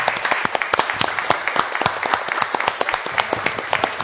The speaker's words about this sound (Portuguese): Eu acho que mais que merecida, nós vamos ficar de pé e vamos bater uma salva de palmas do Corpo Bombeiro de nossa cidade.